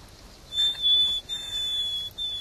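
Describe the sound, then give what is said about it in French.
A nightingale's thin, high whistled position call note, with which it always begins its song, drawn out steadily and repeated three times with brief breaks, clear against a quiet background. “Alors il commence toujours son chant par son cri de position, et après il décline son identité, il donne son âge.”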